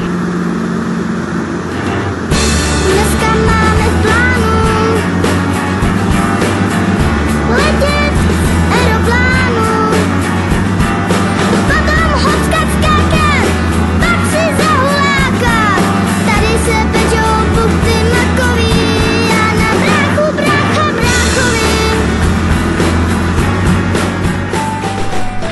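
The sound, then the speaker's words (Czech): A loud, steady roar of a helicopter's engine and rotor as it takes off and flies over Brno fills the whole recording, with a constant low droning hum; faint voices surface now and then beneath the noise. “Vyletěli, už se pohybujeme teďka nad Brnem.”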